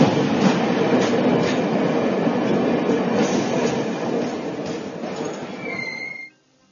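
A train pulling into Parivartan station rumbles steadily with rhythmic wheel clatter, then slows with a brief high brake squeal before the noise cuts off abruptly. No voices.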